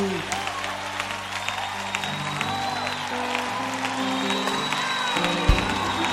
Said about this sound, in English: Come on, clap your hands. Let's go together, let's go. Come on, clap your hands, Lord. Come on, give him all the praises.